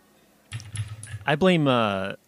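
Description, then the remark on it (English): About a second of rapid, clunky mechanical keyboard typing on Cherry MX red switches, soft thocking keystrokes rather than sharp clicks, followed by a voice speaking that overlaps the last keystrokes. “It sounds like you've got some MX reds.”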